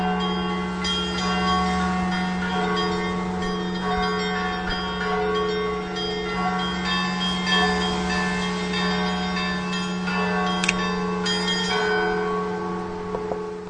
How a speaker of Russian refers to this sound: А вот видите, я дожила ее внучкой, вот для того, что теперь такой колокольный. Я не могу сказать, что это у нас малиновый звон, но все-таки